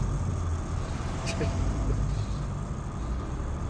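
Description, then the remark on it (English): Cars drive along a sunny street in Los Angeles, a steady low rumble of traffic with continuous road noise and engine hum, even in loudness throughout. “Cars travel along a sunny LA street.”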